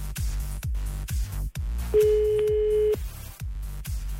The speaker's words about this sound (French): On compose le numéro de téléphone et si il ou elle répond à la question qui paye les factures le matin, c'est gagné.